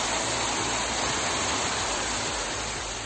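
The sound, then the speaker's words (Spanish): Heavy rain from a cloudburst pours down on Madrid in a dense, steady hiss that fills the whole clip, with a low rumbling undertone and no voices; the downpour flooded and closed several metro stations on lines 2, 3, 4, 7 and 10 at rush hour. “Una fuerte tromba de agua ha provocado el cierre de varias estaciones de metro de las líneas 2, 3, 4, 7 y 10 en plena hora punta tras quedar completamente anegadas por el agua.”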